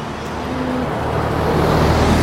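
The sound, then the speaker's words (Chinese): Steady street traffic roars, with a deep engine drone from a large vehicle that grows slightly louder over a couple of seconds, on a street with many buses at a zebra crossing. Nobody speaks. “啊，可以看到这里有好多，公交车。”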